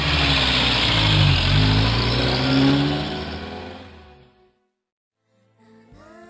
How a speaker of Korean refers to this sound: 그러나 두 사람이 정운대 문 앞을 나왔을 때는 이미 부대를 떠난 트럭이 시가지를 향해 200m가량이나 앞서 달아나고 있었다.